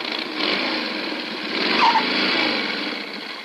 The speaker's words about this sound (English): Ah. How do you like the way my cycle stops now that I've had the brakes fixed